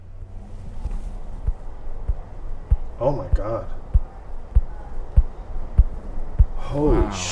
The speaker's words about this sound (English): And what I have in there now is a St. Jude's heart valve. It's a titanium heart valve. Like, I tick like a watch, man.